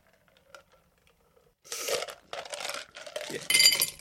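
Ice cubes tumble into a glass: a few faint ticks, then a clattering run of crunchy clinks ending in a bright, ringing clink. No voices are heard.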